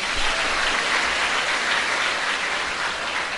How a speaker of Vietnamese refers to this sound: Các bạn cho một tràng pháo tay.